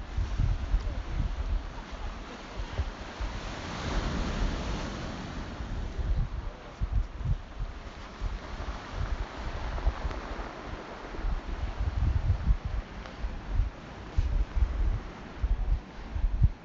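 Atlantic Ocean waves wash against the shore at the small fishing village of Lahinch, County Clare, beneath a steady roar of wind, with low rumbling gusts buffeting the microphone throughout. No voices are heard.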